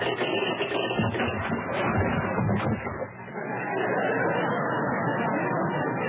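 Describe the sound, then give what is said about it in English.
A ship drops anchor: a dense, rattling clatter of heavy anchor chain runs out for a few seconds, with sharp clanks early on, then settles into a steady rumbling roar until the end. “Next, a ship dropping anchor.”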